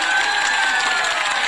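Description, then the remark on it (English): Steady, dense applause from a small group welcoming a special guest fills the whole moment, a continuous wash of clapping with faint cheering mixed in, fairly loud. “And once again, we got my special guest. Clap it up.”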